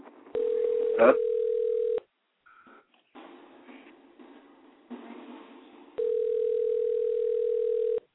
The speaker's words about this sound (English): can you turn your phone down?